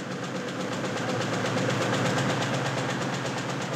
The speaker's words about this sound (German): Und weiter donnern die Rotationsmaschinen. Nach der Morgenausgabe kommt die Mittags-, die Abend-, die Nachtausgabe dran.